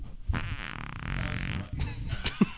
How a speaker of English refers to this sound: I hope these farts bring you joy as they have us.